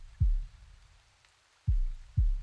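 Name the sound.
heartbeat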